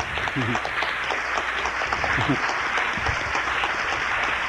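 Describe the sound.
An audience claps steadily for a former trio bandmate who stands up, a dense, even wash of many hands that stays loud for the whole stretch, with a few voices calling out underneath.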